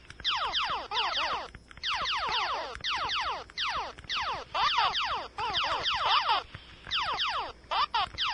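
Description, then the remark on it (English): Galaga arcade game sound of alien ships falling from the sky: rapid bursts of electronic whistles that swoop down in pitch, repeating in tight clusters with brief gaps, loud and steady, with no talking. “Alien ships falling from the sky in Galaga.”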